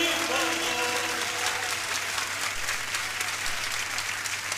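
Steady, dense applause from a crowd fills the whole stretch, many hands clapping together at an even, loud level, with a faint sustained tone fading underneath at the start.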